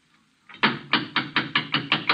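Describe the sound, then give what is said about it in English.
Someone raps on a wooden vestry door in a quick, even series of about seven knocks. The knocks are fairly loud, and they follow a brief hush, with no voices. “I think that's probably him now. Come in. The vestry door's not locked.”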